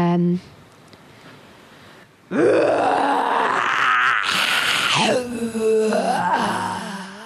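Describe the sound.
After a brief tone and a quiet pause, a person loudly imitates a bear's growl: one long, drawn-out groaning roar whose pitch rises, wavers and drops over about five seconds.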